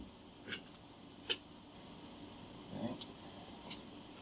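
A few faint, scattered taps and a short squeaky stroke from a marker drawing a continuous waveform on a whiteboard, quiet, with no one speaking.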